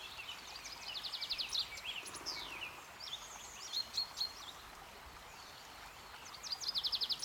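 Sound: birdsong outdoors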